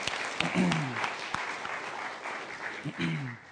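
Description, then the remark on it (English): A group applauds an announcement, clapping together in a steady, dense patter lasting a few seconds, with brief voices rising through it at the start and again near the end. “So I feel like we should applaud.”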